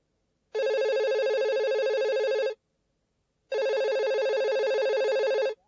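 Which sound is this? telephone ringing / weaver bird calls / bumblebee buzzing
telephone ringing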